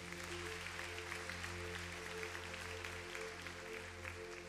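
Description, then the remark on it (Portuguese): An audience applauds steadily, many hands clapping in a dense, even patter that holds at a constant level, with a sustained low tone humming underneath and no voices. “Pode aplaudir porque Ele é bom.”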